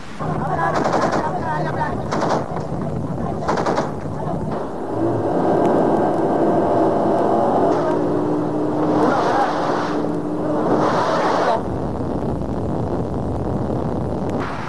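A naval battle in the evening: loud, repeated bursts of gunfire and shell blasts crack over the steady roar of speeding Black Tiger boats racing through flying shell fragments, with rushing wind and water filling the background throughout.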